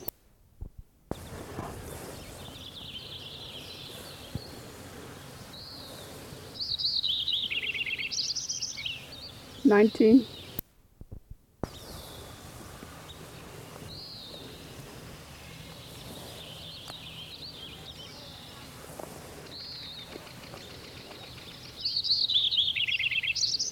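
bird song

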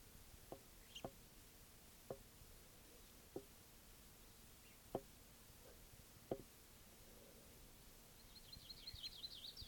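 distant birds calling

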